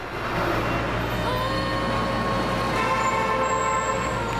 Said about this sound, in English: Further down the road, Shahana narrowly avoids being run over. Nazneen runs across the road, avoiding the fast-moving traffic.